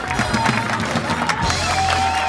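A crowd applauds and cheers steadily, dense clapping forming a loud wash of noise with bright shouts and whistle-like tones rising through it, no pauses across the brief burst.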